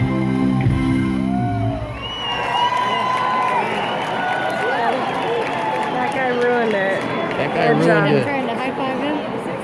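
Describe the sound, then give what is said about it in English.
A concert crowd in Las Vegas roars in loud, continuous cheering after the pianist kicked back his piano stool and walked off stage, with shrill whoops and yells rising and falling above a dense wash of voices. A short musical tail fades out at the start. “And he did come back to finish off, you know, at the end of the song, he did come walking back out there, and some of the crowd reaction, what they saw.”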